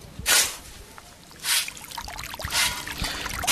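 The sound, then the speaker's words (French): Flowing water of the Kilabou river in the Buturande quarter of Kiwanja, with a series of splashy scooping sounds, roughly one every second, as holidaying students dig and lift wet sand; no voices are heard. “Nous sommes à Kiwanja, dans le quartier de Buturande, coin de la rivière Kilabou, où les vacanciers tirent des sables, les rassemblant le long des rives.”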